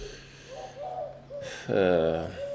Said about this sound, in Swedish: Oj, vad är det som låter? Jag vet inte. Det kan vara en uggla. Eller som vilket fiskmås.